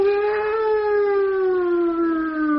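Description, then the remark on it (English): A voice hums a steady, buzzing drone in imitation of a single-engine aeroplane, its pitch sinking slowly over nearly three seconds. The tone holds unbroken and fairly loud, with no other sounds around it. “It's the sort of bloody aircraft that goes...”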